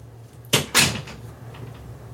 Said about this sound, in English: Close the door.